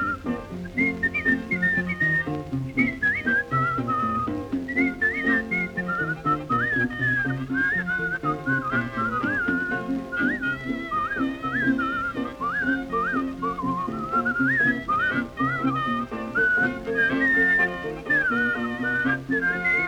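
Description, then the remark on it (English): Someone whistles a tune, a bouncy ragtime melody, for the full stretch, the bright tune darting up and down over a steady, busy instrumental accompaniment, with no talking. “I said, "Well, all right, whistle it. I can play it."”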